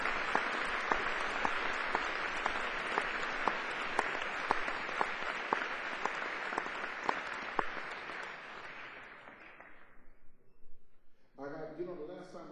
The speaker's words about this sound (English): How about another round of applause for …, tenor, saxophone.